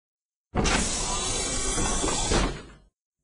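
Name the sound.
door opening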